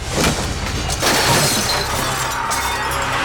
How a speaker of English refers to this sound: With a scream, Tepi swiped her arm across the table, knocking the candles and offerings onto the floor. Flames extinguished and bowls shattered.